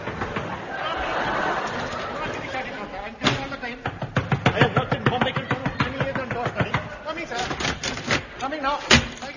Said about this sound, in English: Me opening the door, sir. I'm coming, sir.